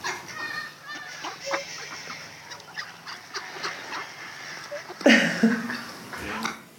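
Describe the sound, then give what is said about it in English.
Ducks quack and honk in a busy, scattered flurry outdoors at Queen's Park in Invercargill as a dog, Lockie, chases them, with a louder burst of agitated calls near the end and faint voices in the background. “proceeds to show the court two short videos of Lockie chasing ducks at the park.”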